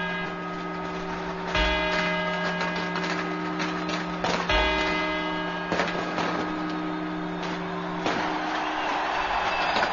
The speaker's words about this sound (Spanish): Estos son los cuatro cuartos. Notarán ustedes que el sonido es totalmente diferente, los cuartos a las campanadas.